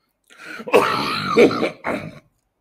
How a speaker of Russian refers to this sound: Я прошу прощения за кашель.